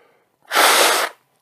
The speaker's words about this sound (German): Wenn ich doll niese, dann reagiert auch mein Schlund. Der geht mit, als wenn er zur Nase gehört.